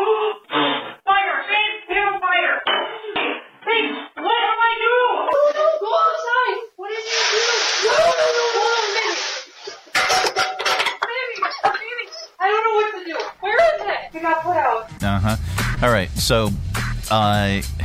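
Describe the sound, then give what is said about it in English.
Water thrown on a burning grease fire in a frying pan in a home kitchen, causing even more flames, makes a loud, harsh hissing roar lasting a couple of seconds, between stretches of excited talk, followed later by clattering and screams. “Okay, she had no idea what to do when her frying pan went up in flames, so she threw water on it, and that caused even more flames.”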